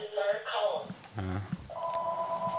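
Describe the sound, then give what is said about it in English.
A phone rings with an electronic ringtone for an incoming call from Brian Callen: a warbling melodic chirp, a short low buzz, then a steady sustained two-note ring. It is moderately loud, with faint background chatter. “So your call's calling.”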